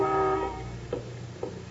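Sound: car horn honking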